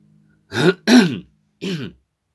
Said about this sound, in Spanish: No, o sea, a ver, la tos es por el cambio de clima. Estamos pasando acá en el hemisferio sur del verano al otoño y los cambios de temperatura. No son los cigarrillos franceses.